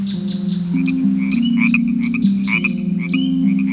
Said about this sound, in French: Tiens, une petite grenouille.